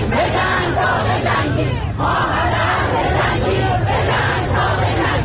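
A large street protest crowd in Iran chants and shouts in unison, a dense, loud roar of many voices rising and falling in rhythmic bursts without a break across the whole stretch.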